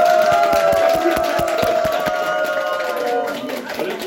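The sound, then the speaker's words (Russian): An audience claps for about four seconds, with quick, fairly even claps at steady volume and voices rising underneath, then the applause gradually thins. “Товарищи, а теперь нам аплодисменты Дежурину Борису Алексеевичу.”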